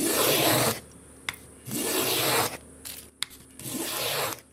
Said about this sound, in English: planes wood for a guitar in his workshop in the bush near the town of Broederstroom in South Africa's northwest province.